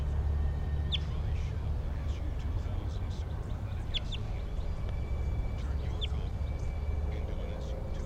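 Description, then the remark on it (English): A wild bird, an orange male perched on a power line above a road at the Animal Behavior Station, gives a few short, high, sharp chirps, spaced irregularly across several seconds, over a steady low rumbling background noise. “They're recording the wild bird.”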